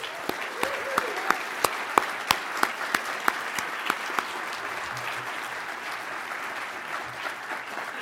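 An audience at an ATLA trial lawyers' meeting applauds the incoming president, the first woman in the role, steadily, the dense clapping joined by a few sharp, louder claps in the first four seconds before settling into an even, sustained round.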